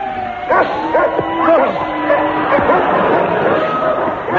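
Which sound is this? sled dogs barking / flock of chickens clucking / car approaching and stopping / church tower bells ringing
sled dogs barking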